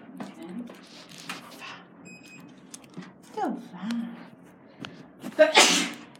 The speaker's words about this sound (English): Bless you.